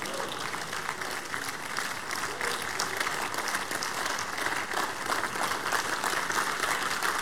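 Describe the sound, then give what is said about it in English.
A standing audience claps and applauds steadily throughout as a clap offering to the Lord, a dense wash of many hands at a constant, fairly loud level, with faint voices mixed into the crowd noise. “Stand to your feet. Give the Lord the biggest clap offering.”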